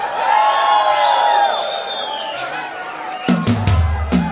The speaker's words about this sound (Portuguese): E a galera dá um grito!